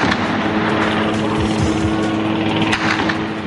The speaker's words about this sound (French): Des tirs à Tunis et des hélicoptères qui survolent la ville.